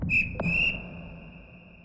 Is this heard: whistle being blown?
yes